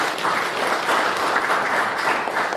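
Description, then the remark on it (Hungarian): A church audience applauds steadily, many hands clapping in a dense, even wash of sound for a few seconds without pause, applauding the completed renovation of the church pews and heating. “Úgyhogy tapsoljuk meg azokat, akik fáradoztak ezen, meg önmagunkat is, hogy megvalósítottuk.”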